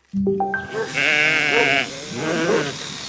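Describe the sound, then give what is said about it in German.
Sheep bleating, several wavering, nasal baas that overlap in quick succession, loud and clear with no voices over them. “Für die Schäfer hat die Schafschur-Saison begonnen. Und das bedeutet auch für alle Nicht-Schafe, dass es Zeit ist, die Wintermäntel einzumotten.”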